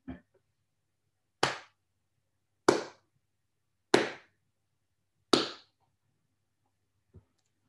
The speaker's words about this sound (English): It means to applaud. And I don't think it was a cheer or a fast clap. I think Saul's clap was a slow, methodical clap as Stephen's torso falls to the dust of the Jewish Jerusalem floor.